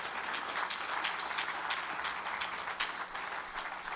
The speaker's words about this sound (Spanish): ¿Cuántos le pueden dar un aplauso al Señor, hermano?